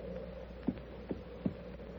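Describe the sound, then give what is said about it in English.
A low, steady rumbling in the ground with three dull, throbbing thumps spaced unevenly over about a second, fairly quiet and with no voices. “A rumbling in the ground. It's like a lot of horses or distant thunder.”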